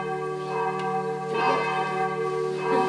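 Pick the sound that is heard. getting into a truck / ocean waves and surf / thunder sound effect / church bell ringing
church bell ringing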